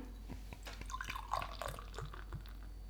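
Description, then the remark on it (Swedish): Moderately quiet sound of beer being poured into a glass, forming a very thick, compact, caramel-coloured foam, with a steady run of small glugs, drips and splashes over a few seconds and no one talking. “Ja, men jag häller upp lite av den här då.”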